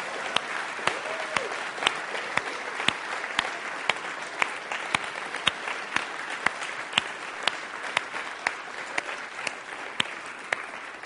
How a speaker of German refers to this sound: Und ich möchte mal die Leute, die seit über 20 Jahren da sind, meinetwegen auch 19, mal einen fetten Applaus geben für das, was ihr gegeben habt.